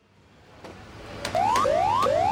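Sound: alarm bell ringing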